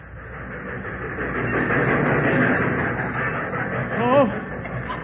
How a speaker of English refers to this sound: But I'll never forget that day waiting down at the depot. There was a flock of us there. And as the train pulled in...